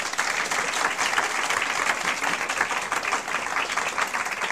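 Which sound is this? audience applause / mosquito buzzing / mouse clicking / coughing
audience applause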